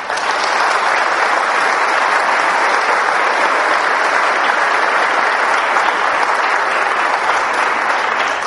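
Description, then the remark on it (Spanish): A crowd claps steadily for over eight seconds, a dense, even wash of applause that stays loud throughout with no voices rising above it, given as an applause of love for households that pray. “Por los hogares que oran, por los hogares que están trayendo a Dios a sus corazones, yo pido un aplauso de amor.”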